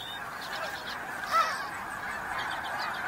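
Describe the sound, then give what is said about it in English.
Geese honk repeatedly in a steady, overlapping chorus on the tundra, with one slightly louder call standing out near the middle against a soft outdoor background. “Here, geese can nest on the ground in relative safety.”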